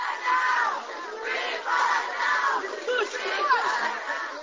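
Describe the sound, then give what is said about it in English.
About 40 Jewish protesters greeting Mrs. Bush at the Western Wall shout a rhythmic chant in unison, "Free Pollard now," referring to Jonathan Pollard; loud voices rise and fall in repeated phrases with a steady, insistent cadence throughout. “Free Pollard now, they shouted.”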